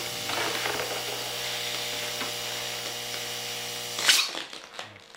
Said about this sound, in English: It's also Hong Sok's art studio. But this sculptor doesn't work with clay. A blue balloon is springing up.